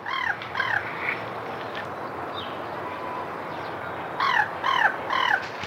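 Crows caw in short bursts: a quick run of harsh calls at the start, a quiet gap with steady background hiss, then another cluster of raspy caws near the end.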